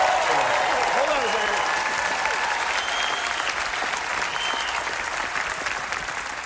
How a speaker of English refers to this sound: I know you're clapping, but you're the ones who didn't vote for her, by the way.